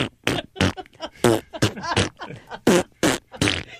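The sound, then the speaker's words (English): A string of loud fart sounds, about eight quick sputtering blasts in a row, each a short buzzy burst with brief gaps between, with no talking. “We haven't made a fart sound in a while”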